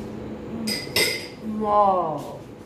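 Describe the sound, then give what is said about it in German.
A couple of sharp metallic clinks of cutlery against a pan ring out over a background of kitchen noise while food is being cooked, with a voice speaking briefly afterward. “Mit der Pfanne.”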